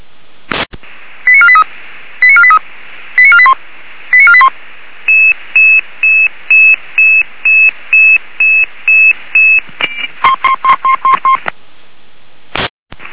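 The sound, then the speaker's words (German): A loud electronic alerting tone sequence over emergency dispatch radio from the Warmerhansen dispatch centre, alerting Red Cross Apolda units 182 and 183 to Oststraße 21 in Apolda: bursts of rapid descending beeps, then a long run of evenly spaced steady tones, then quicker rising bleeps, framed by sharp clicks of the radio keying. “Leitstelle Warmerhansen, Alarmierung.”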